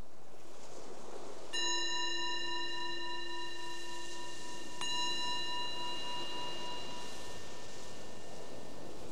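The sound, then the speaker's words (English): A meditation bell is struck twice, a few seconds apart, each strike ringing out with a clear, shimmering tone that hangs and slowly fades over soft background hiss. “The bell is the invitation to be here.”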